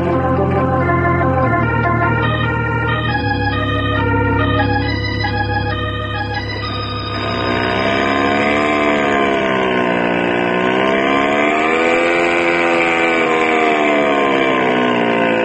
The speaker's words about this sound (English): Wow, that's some engine